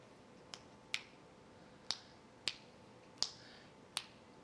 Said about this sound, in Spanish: A ver, un chasquido de dedos. No, se va a dar bien obvio. Mira.